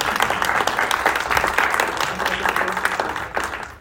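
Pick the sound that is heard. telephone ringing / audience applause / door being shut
audience applause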